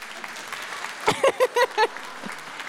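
A handful of scattered audience claps, about five sharp bursts in quick succession, with a low crowd murmur underneath before and after, given as a clap-o-meter vote on how much of the Ruhr area there is in Sophie Passmann.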